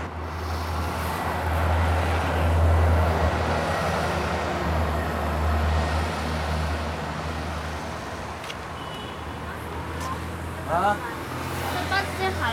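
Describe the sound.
Busy city street traffic at a crosswalk in Chengdu, China, in the morning: a steady, loud wash of engine rumble and road noise, with faint voices in the background and a few short high chirps near the end.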